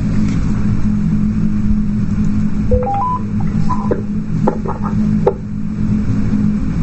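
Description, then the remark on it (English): A quick run of short electronic phone beeps, stepping up in pitch, followed by a few clicks, all over a steady low engine-like rumble. Nobody speaks. “Sorry, guys, tearing in. My phone's off.”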